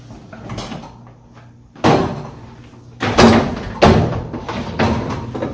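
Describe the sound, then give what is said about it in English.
A dishwasher door is handled with several solid thumps and clunks, a sharp bang near two seconds followed by more latching knocks, fairly loud with mechanical rattling between, as the door is closed and its latch pulled down to start the cycle. “Close the door, pull it down, it will start.”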